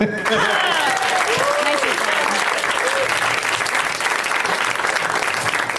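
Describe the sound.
A quiz game show studio audience breaks into steady, loud applause that holds for several seconds, a dense wash of clapping with a few cheering voices rising above it.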